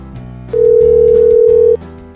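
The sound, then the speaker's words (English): An outgoing phone call placed during a show as a first attempt, ringing on the line: a single loud, steady ringback tone lasts just over a second, with a low, quiet background hum before and after. “Hillock likes the part of the show where the phones ring.”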